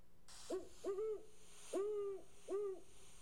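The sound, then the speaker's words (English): A great horned owl gives four deep, soft hoots in a halting rhythm, each a short rounded note, heard alone against a faint background hiss. “Or the pensive baritone of the great horned.”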